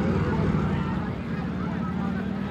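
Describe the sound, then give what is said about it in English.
The engines of four police motor scooters drone steadily on a highway during a demonstration, a continuous buzzing rumble that holds at a fairly loud level throughout, with an indistinct murmur of voices mixed underneath. “1, 2, 3, 4 police on motor scooters.”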